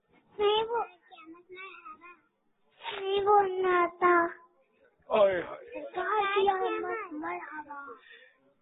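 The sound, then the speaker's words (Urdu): A young child cries in a few strained, high-pitched bursts broken by short pauses, the wails rising and falling unevenly. “یہ بچہ رو رہا نیند آ رہی ہے یا امی یاد آ رہی ہے؟”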